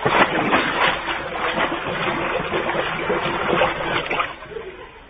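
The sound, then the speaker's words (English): A new Cadillac breaks through a fence and plunges into a swimming pool with a loud, heavy splash, then water churns and sloshes noisily for several seconds before easing off at the end as it sits on the bottom. “Right into the water.”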